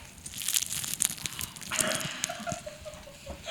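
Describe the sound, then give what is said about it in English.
Crisp, crackly crunching of a bite into super crispy plain fried chicken from Popeyes, a dense run of sharp brittle snaps over a few seconds, with no voices. “That was also, if we still have that sound bite, that was the super crispy chicken.”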